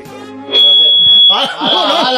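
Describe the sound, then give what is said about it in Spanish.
A Sonotone hearing aid alarm gives a loud, steady, high-pitched electronic tone lasting under a second, then fades as a person starts talking over it. “Esto es el. La alarma. El sonotone”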